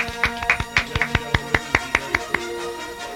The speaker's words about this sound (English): A little golf clap for the tan man.